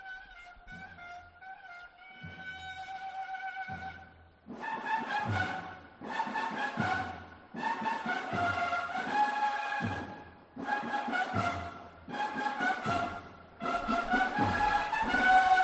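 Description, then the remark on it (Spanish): A processional march plays in the rain as a procession float moves slowly: a band sounds sustained, steady-pitched tones in repeated phrases separated by short breaks, moderately loud throughout with no talking. “Está sonando, de hecho, una marcha. A ver si recogemos los sonidos de fondo.”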